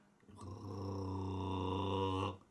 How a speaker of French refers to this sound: Et elle entendit encore ce nouveau grognement étrange tout près.